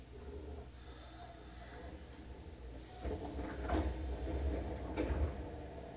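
The right-side train doors slide open at Minamimorimachi station, a transfer point for the Sakaisuji Line and JR Tozai Line, a sudden mechanical shift over a steady low rumble, followed by a couple of sharp clunks and hisses; no voices.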